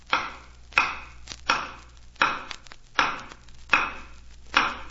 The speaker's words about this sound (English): Can you make a pounding noise? Just pound your hand on the floor.